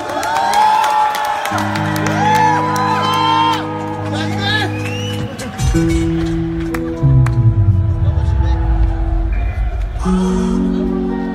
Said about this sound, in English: please put your hands together and with lots of screams, welcome the legendary